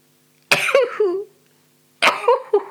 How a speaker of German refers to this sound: Entschuldigt bitte. Ich bin dankbar dafür, dass ich niesen kann, dass ich es rauslasse.